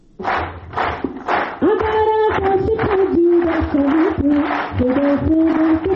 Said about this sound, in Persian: این صداها و چک چک از بحر تشویق 11 سرباز معلول اردوی ملی افغانستان است که قرار است به زودی برای شرکت در مسابقات جهانی موسوم به شکست ناپذیر وارد کانادا شوند.